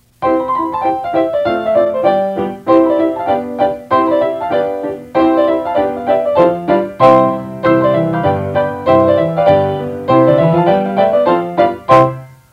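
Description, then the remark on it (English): A lively piano tune plays alone, with bright melody notes over rhythmic chords at a steady, bouncy pace, ending on a final struck chord. “And the cow and the kitty cat played a tune on the piano.”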